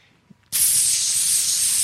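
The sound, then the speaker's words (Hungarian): After a brief quiet moment, a loud, steady hiss of steam bursts out from a pressure cooker valve and continues unbroken and bright, with no voices. “Láttatok már kuktát, amikor így beindult, így pörög, fújja ki a gőzt.”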